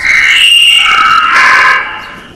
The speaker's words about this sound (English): He saw her reach down, take a rose stem in the fingers of one hand, and snip the stem with a pair of scissors. And again he heard the scream. It came at the exact moment when the rose stem was cut.